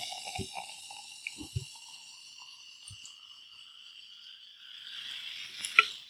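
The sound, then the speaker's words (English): A smoothie-style ale is poured into a glass, with a few low glugs early on over a steady fizzing hiss that swells near the end. No one speaks. “I suppose I should stop talking as I do this. I don't trust my pouring skills.”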